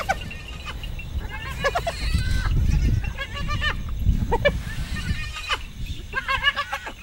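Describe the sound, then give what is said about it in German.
A group of hyenas squeal and yelp in rapid, overlapping bursts at night, seen from a safari jeep, the animals running wildly through the darkness, over a steady low rumble, with no one speaking. “Die Hyänen rennen wie von Sinnen durch die Finsternis, quieken, jaulen, der Geifer läuft ihnen aus dem Maul, sie laufen auseinander, dann kommen sie wieder als Gruppe zusammen.”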